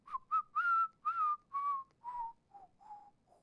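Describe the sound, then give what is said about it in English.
A person whistles a short tune up close, about eight clear notes that step downward in pitch and gradually grow softer, with no talking. “I'm going to try and whistle this.”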